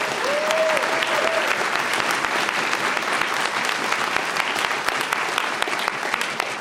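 Steady audience applause fills the whole stretch, a dense, even patter of many hands clapping at a constant loud level, with a brief whistle-like tone near the start.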